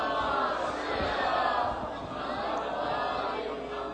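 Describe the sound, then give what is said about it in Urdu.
A large audience recites salawat together in unison, calling blessings on Muhammad and the family of Muhammad, a loud, sustained wash of many voices chanting as one for several seconds, swelling slightly and then easing back. “صلوات پڑھیے محمد و آل محمد.”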